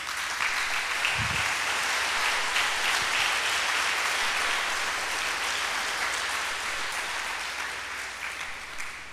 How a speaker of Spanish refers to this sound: De un aplauso al Señor.